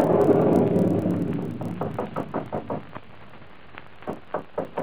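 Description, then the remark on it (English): A fading rumble gives way to a quick run of about seven sharp knocks on a door, a pause, then a few more scattered raps, with no voices. “answer the door, dear.”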